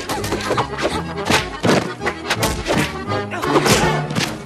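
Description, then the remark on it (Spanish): A rapid flurry of punchy thuds and whacks as a woman knocks a group of men down with karate blows one after another, over a busy, noisy background with occasional grunting voices. “Se enfrenta a los hombres de Robin, esquiva una flecha y los va derribando a golpes de karate.”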